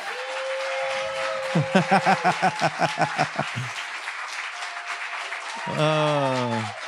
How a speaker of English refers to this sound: This concludes our Christmas spectacular. So could we give them one more round of applause?